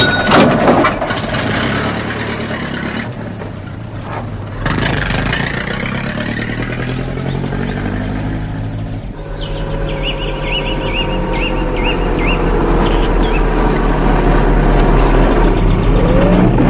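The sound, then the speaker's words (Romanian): A bus engine idles with a low, steady rumble, then revs up and settles again, loud, with some metallic clatter over the sustained drone. “Ah, uite-l că vine. La revedere, tovarășe motorist. Stai! La revedere, Sasha. Stai, nu te sui! Lasă autobuzul”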